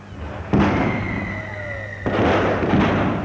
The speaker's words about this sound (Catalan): Veig que encara se sent... encara se sent ara els coets amb focs d'artifici, com sempre s'acaba la traca els últims anys.